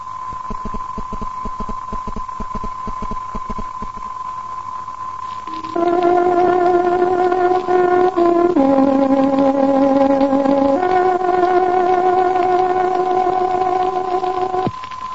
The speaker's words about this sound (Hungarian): Kedves hallgatóink, pontos időjelzést adunk. Tárogatónk hangja 16 órát jelez.